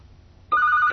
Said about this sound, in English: You are receiving a call